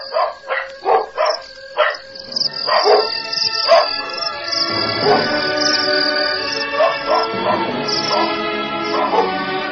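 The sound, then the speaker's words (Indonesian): A pack of wolves attacks and preys on Balabur, a servant, in the Wanarodra Murti: a quick run of sharp barks gives way to a dense, frantic tangle of overlapping snarls, yelps and whimpers, loud throughout. “Dia binasa di tengah Wanarodra Murti menjadi mangsa kawanan serigala.”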